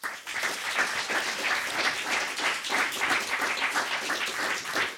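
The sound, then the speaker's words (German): Steady audience applause for the guests as a discussion ends, a dense wash of many hands clapping at an even loudness for the full five seconds, with no voices on top. “Das ist Ihr Applaus.”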